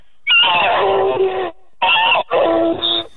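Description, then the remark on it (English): A person imitates a horny stallion's whinny: three loud, strained, warbling bursts separated by short pauses, with no other talking. “Specifically a horny stallion.”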